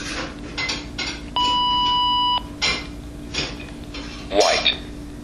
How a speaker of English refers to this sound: But you hold the calibrate button in only until you turn it on, and then you can release it. And after about a second or two, it will beep. I just turned it on.